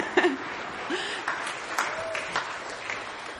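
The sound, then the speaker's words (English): An audience at a morning church service claps steadily for the producer of the church's music record, a dense, even patter of many hands at moderate volume, with a few brief cheers or voices rising over the applause. “So again, we can clap for him.”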